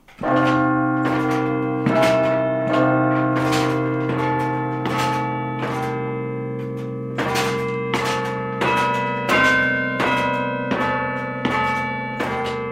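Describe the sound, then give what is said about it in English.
Carillon church bells ring out a melody, played with broom-handle batons in a stone room of the bell tower, each wired to one of the church's 43 bells; each struck note is followed by long, overlapping resonant tones that hum and shimmer. Loud and steady, slow deliberate rhythm, no voices. “Directly above are the church's 43 bells, each one connected by a wire to one of those broom-handle batons.”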